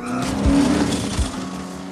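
A sports car's engine roars loudly as its tires squeal in a sustained, rising screech while it swerves to avoid a man knocked out of the car it is pursuing, with a few low thumps breaking through the continuous skid.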